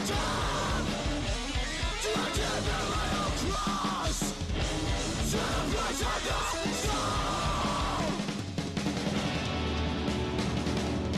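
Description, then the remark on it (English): Loud, dense metal music with harsh screamed vocals over rapid blast-beat drumming and distorted guitars, the whole mix saturated and continuous, with a brief drop in intensity near the end. “Good screaming. Blast beat.”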